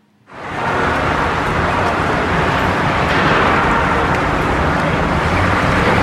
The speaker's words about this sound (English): Okay, this is just the traffic noise. This was probably easy.